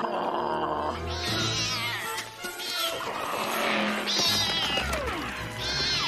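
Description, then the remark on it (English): Several cats, running through a hollow tree trunk, meow in loud, drawn-out, overlapping yowls that rise and fall, repeating every second or two over a busy, noisy background. “The cats run through a hollow trunk and Scooby's stuck in it.”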